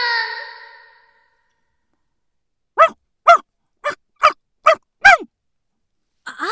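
A dog named Pome, which has followed its owner to school, barks six times in quick, sharp bursts at a steady, fairly loud rhythm, following a brief whining tone at the start and a short silence.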